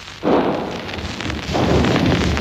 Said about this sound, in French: La lutte continue dans le quartier populaire dont je vous parle. Vous pouvez entendre le canon ennemi et le mousqueton français qui alternent presque sans interruption, mais la confiance et l'enthousiasme ne sont pas du côté des gros calibres.